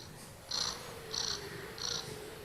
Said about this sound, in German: Außerdem geben wir sie nicht ab, weil sie das süßeste Schnurren der Welt hat.